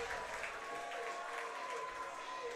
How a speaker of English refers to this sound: And you hear the applause. That is not necessarily for the hit. That is rather for Rocky the Bat Dog. Yes, you heard that right. The Johnson City Doughboys have a bat dog.